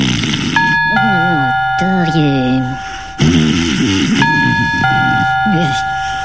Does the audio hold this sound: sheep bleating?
no